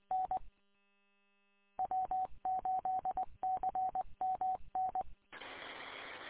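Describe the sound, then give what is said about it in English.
A series of short touch-tone beeps plays in quick bursts with brief gaps during a radio test, sounding like a keypad being dialed over a radio, then ends in a sudden hiss of static. “TFA-DTI testing.”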